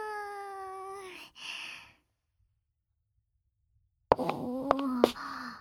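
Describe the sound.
A person's voice imitates a cat, giving a drawn-out meow-like call, then after a pause of silence a second, more broken sequence of playful meowing sounds, fairly loud.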